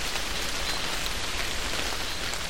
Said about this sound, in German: Na, hemset? Nieselregen tippen sie. Dicht dran, aber dat wär Regen von rechts.